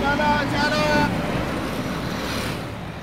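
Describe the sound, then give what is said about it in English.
A big bus that carries at least 24 people rumbles steadily at a bus stop early in the morning, with indistinct voices and shuffling as workers climb aboard for a short ride to a factory, and a brief tonal whine in the first second. “… and his colleagues are getting into the bus now. It is a big bus that carries at least 24 people.”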